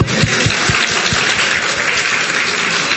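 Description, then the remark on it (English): A crowd at a dinner at Jing Fong applauds the restaurant staff, a dense wash of many hands clapping at once, loud and sustained for the full three seconds with no voices standing out. “So before we begin, let's give a round of applause to the staff here at Jing Fong.”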